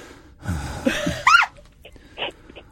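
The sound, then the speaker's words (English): A person performs exaggerated heavy breathing, trying it out for a heavy-breathing prank phone call: a long, raspy, voiced breath ending in a squeaky gasp, then a couple of shorter, softer breaths. “We're going to do a heavy breathing phone call.”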